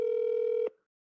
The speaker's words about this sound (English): This phone is ringing.